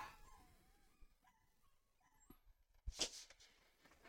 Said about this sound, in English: Can you hear these dogs howling? I'm sorry if you can. I don't know what it's about. There's something in the front yard that's got them.